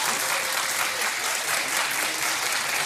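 An audience claps steadily for the whole stretch, a dense, even wash of many hands with no pauses and no voices standing out.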